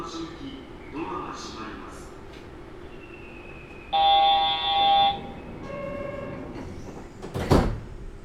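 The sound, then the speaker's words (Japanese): Train doors on the right side sliding open at Shijō-mae (市場前) station: a bright electronic door chime rings for about a second, then a short rush of air and rumble as the doors move, over steady cabin hum. “市場前、市場前です。右側のドアが開きます。”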